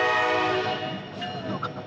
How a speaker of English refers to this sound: More friendly engineers. These are two helper engines. They just helped push one of those big trains up the curve. They're now heading back down to Altoona, to their home base in Rose Yard, where we were this morning.